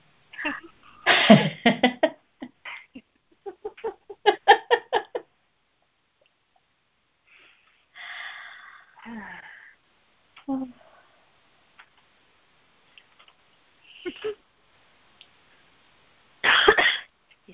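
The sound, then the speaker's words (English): A cat named Miss Kitty hacks up a hairball in several rough, wet bursts, with pauses between spasms and a final strong heave, fairly loud against otherwise quiet surroundings. “That brought up something. It was a hairball.”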